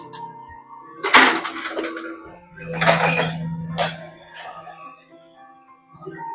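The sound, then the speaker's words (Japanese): Heavy clattering and metallic banging from a garbage truck that the speaker is walking past, over a steady low engine rumble, with several loud crashes in the first half before the noise eases off. “今、ちょっとね、ゴミ収集車の横を通るので、ちょっとうるさいと思います。”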